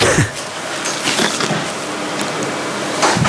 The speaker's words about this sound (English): Slide door lock. Slide door double tap.